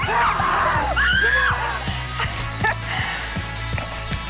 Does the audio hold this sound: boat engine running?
no